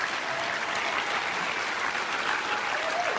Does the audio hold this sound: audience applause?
yes